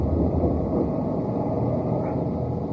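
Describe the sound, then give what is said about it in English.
A steady, low car engine rumble with road noise as the car pulls over and stops to park, with no voices. “Okay, just pull over and stop.”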